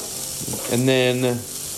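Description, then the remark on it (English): Vegetables mixed with a veggie patty sizzle in hot olive oil as they are stirred, with a steady crackling hiss, and a brief humming, voice-like tone rises in the middle before fading. “I got olive oil in there, the vegetables. You know, you take one veggie patty and mix it up with...”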